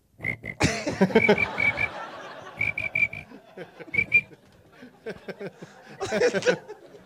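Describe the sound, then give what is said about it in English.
Someone whistles a series of short, high, chirping notes in quick bursts, imitating a cricket, with muffled voices and laughter around it. “That was a whistle. That was a cricket jumping on a buzzer.”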